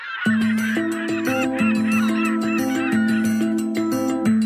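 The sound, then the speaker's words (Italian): Seagulls call repeatedly in short, wavering cries, layered over a steady musical backing with sustained chords and rhythmic notes; the birds blend into the closing moments of the song. “Poteva non metterci i gabbiani alla fine.”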